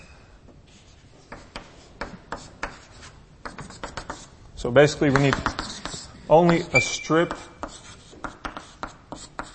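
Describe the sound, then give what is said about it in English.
Scratchy, uneven strokes of drawing on a board repeat steadily throughout, with a short stretch of speech breaking in partway and the scraping continuing underneath and after it. “So let me draw that kind of clearly.”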